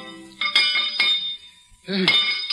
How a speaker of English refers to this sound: melted down the cracked bell and carefully added 187 pounds of American copper to the 2,000 pounds of the original metal. The bell was recast. Upon being tested, it cracked again.